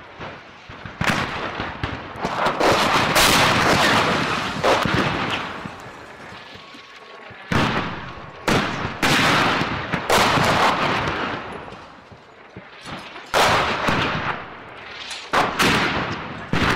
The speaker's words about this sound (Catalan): L'altre dia se'n va fins a front de batalla, ben bé, allà al Donbass, i li passa mitja crònica això, que comencen a rebre trets, no saben ben bé en un inici d'on. Perquè el malson pot tornar, i torna, i ens agafa de ple una pluja de morter.